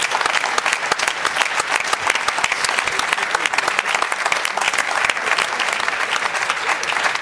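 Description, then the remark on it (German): Sustained applause from an audience welcoming Julia Simic as she comes to join the hosts, dense rapid clapping that stays loud and steady for the whole stretch, with no voices standing out above it. “Komm, wir geben ihr nochmal einen Applaus.”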